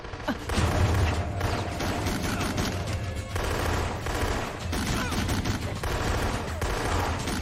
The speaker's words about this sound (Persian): خانم، یه رخنه امنیتی داریم. داخل ساختمون شلیک شده.